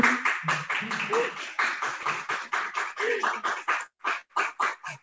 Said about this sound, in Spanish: No sé si lo están escuchando, están aplaudiendo la parte de la organización que tenemos aquí, algunos compañeros de sindicatos, familias.